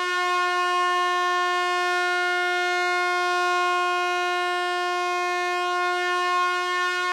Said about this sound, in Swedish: Vi kan ju jämföra, här har vi mistlur.